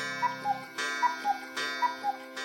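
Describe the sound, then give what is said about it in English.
A cuckoo clock in a toy store ticks steadily in an alternating tick-tock pattern, about three pairs of crisp clicks over a soft sustained tonal background. “And the shelves in his store were full of little boats, wooden horses, carriages, houses of all sizes, dolls' beds, tables and chairs, dice and games of all kinds, and clocks with cuckoos that popped out every hour and told you what the time was.”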